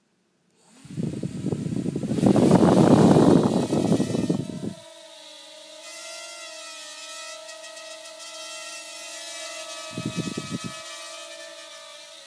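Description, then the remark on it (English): A Hubsan 4X micro quadcopter drone, about 4 inches square and 2 inches high, without a camera, spins its motors up into a high, steady whine with sharp tonal buzzing, loudest at first, then holding a constant hum as the rotors keep running. “It's a Hubsan 4X micro drone.”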